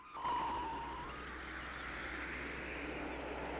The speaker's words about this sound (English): A patrol car speeds down a country road.